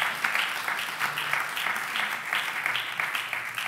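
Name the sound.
audience applauding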